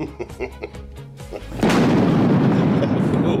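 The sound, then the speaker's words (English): A brief moment of voice gives way to a sudden, loud thunder sound effect: a sharp crash that rolls straight into a heavy, sustained rumble lasting to the end. “All you got to do is put the thunder at the right that's time.”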